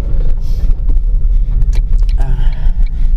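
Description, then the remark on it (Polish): A car rolls slowly out of a parking lot, its engine a steady low rumble heard from inside the cabin, with a few light clicks and knocks over the drone. “Mała tradycja się utarła, że większość moich podcastów prowadzę w samochodzie i zaczynam je w ogóle prowadzić w momencie, kiedy wyjeżdżam z parkingu.”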